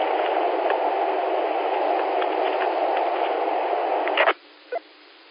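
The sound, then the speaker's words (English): A test radio transmission with a held dead key and no voice, just a steady band-limited hiss for about four seconds that cuts off abruptly, followed by a brief squelch blip; the radio's menu 51 is set at 100. “Do that again, and do that again, and hold a dead key, both in one transmission.”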